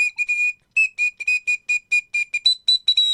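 A news-style jingle of quick, bright whistle-like notes, about a dozen short pulses in a steady rhythm, with the pitch stepping up higher for the last few notes. No voices.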